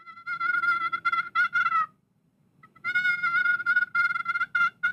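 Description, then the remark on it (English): A soft, rolling turkey purr produced on a game call, with two fluttering bursts of trilled notes separated by a short pause, close and clear with no talking. “And then the purr is.”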